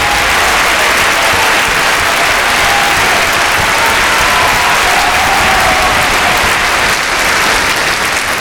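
A crowd claps steadily and loudly in sustained applause, a dense wash of hand claps with faint cheering mixed in, holding at full strength for the whole stretch.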